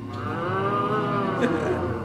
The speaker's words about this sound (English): after hearing Krishna calling, the cows would immediately respond by mooing